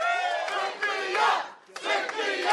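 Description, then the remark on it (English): An enthusiastic crowd of progressive and activist groups cheers and shouts loudly for Nixon as she accepts the Working Families Party endorsement, a dense roar of many voices breaking off briefly in the middle before surging back just as strong. “Nixon told the enthusiastic crowd of progressive and activist groups that New York would be different if she were in charge.”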